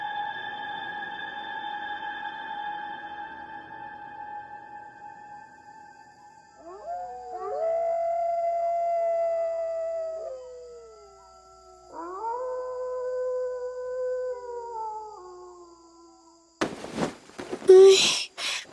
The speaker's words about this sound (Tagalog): Nakakatakot naman ang alulong ng asong gala na yun sa kalye. Hindi tuloy ako makatulog.